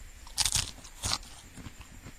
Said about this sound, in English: I'm sure you all heard the crunching. Yeah, not tastes like a dill pickle, all right.